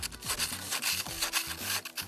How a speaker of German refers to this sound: Nein, die malen mit Kreide über der Tür, schreiben sie irgendwelche Schimpfworte oder sowas drauf.